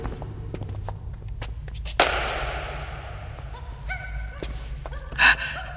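A monkey call: a sudden loud burst of noise, then a few short, high-pitched hooting notes and a final sharp cry over a low background rumble.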